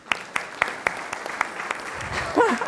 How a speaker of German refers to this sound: Begrüßt mit mir mit einem herzlichen Applaus den Mr. Thomas.